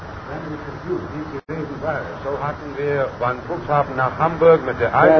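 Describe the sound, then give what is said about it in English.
A radio transceiver set sweeps across stations, including Barcelona, Spain and W3XAL, Bound Brook, New Jersey, giving a steady run of overlapping, band-limited voices and warbling tones that shift in pitch, with one brief dropout early on. “You sure, my friend, our transceiver set is working right?”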